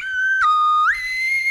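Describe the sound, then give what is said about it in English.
A slide whistle blown loud in one continuous tone, dipping sharply in pitch, holding, then gliding back up and sustaining to the end. “Slide whistle on the morning! Good slide whistle to you!”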